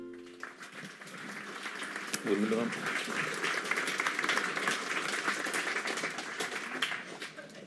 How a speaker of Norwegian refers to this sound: Ja, det Dag som skal få applaus nå, for å vente litt. Velkommen til denne kvelden med Dag Hessen.